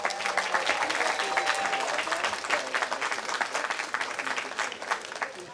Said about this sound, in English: Please join us in giving a warm round of applause to all of our volunteers.